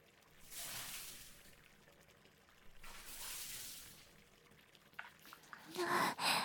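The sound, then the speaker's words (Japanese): Water pours and rinses in two steady, hissing bursts, followed by louder splashing and dribbling at the end, as soap foam is washed off with running water. “ねえ、泡を洗い流していじり合いっこしよう。”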